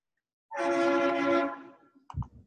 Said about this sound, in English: So we get the truck noise to punctuate it. First accepted RFC. I actually almost thought that was a sound effect to signal success of merging the RFC.